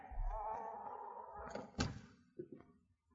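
household object, door being opened

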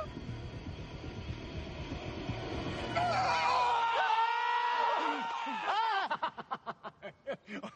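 sound effect, man screaming

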